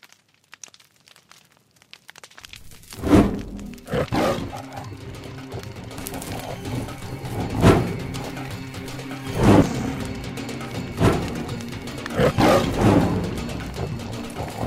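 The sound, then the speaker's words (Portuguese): After a brief silence, a tiger roars again and again, five deep, rumbling bursts at uneven intervals over a low, continuous growling background, loud, with no voices. It is a sound effect in a sound-poetry adaptation of William Blake's poem The Tiger. “Transformamos O Tigre em poesia sonora pelo uso de leituras interpretadas, efeitos sonoros e manipulação digital.”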